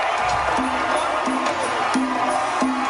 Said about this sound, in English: First, people cheered at first, but then it turned. They put Bill and Hillary on the big screen, and the crowd just started booing them lustily.